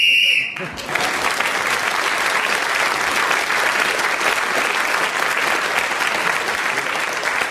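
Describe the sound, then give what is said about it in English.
A short, shrill whistle blast, blown to end a round of a panel game, sounds for about half a second, then loud, sustained applause bursts out and carries on steadily to the end. “getting the extra point for speaking as the whistle went”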